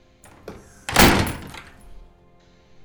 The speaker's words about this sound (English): Shut the damn door